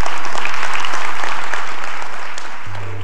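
A crowd applauds God steadily, dense clapping filling the space at a strong, even level, then beginning to taper slightly as a low hum enters near the end.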